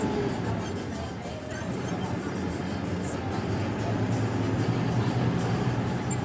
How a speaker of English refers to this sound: Here I am on 31st Street about to get onto the new bus.